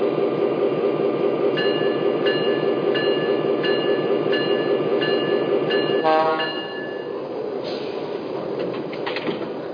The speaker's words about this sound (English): arriving from St. Louis on track 1, train number 9, the city of St. Louis.